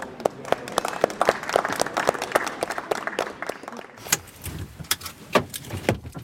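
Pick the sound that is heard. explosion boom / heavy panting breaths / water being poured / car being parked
car being parked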